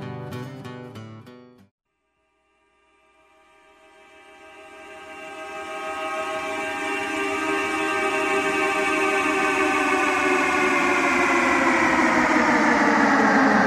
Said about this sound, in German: Ich befinde mich hier auf dem Streckenabschnitt Schwarz-Volders der Baustelle der Unterinntalbahn.